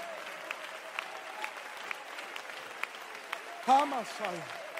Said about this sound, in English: Somebody clap your hands for a while.